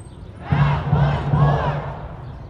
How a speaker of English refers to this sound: Then the crowd turned to the city county building and pointed toward Hogsett's 25th floor office and chanted, "Not one more."